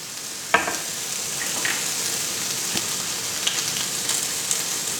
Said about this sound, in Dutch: Ik heb 4 plakjes spek nu in de pan gedaan. Zo. Dan begint het lekker te sissen.